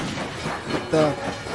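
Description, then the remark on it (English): A steady rumble of a train rolling along rails, with a brief high metallic squeal or whistle tone rising about midway through the short stretch of noise. “There's a train, there's a horse, there's a gun.”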